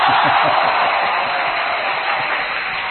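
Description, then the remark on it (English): An audience claps steadily for about three seconds: a loud, dense wash of many hands beating at once, holding an even level from start to finish with no voices rising above it. “Everybody clap for him.”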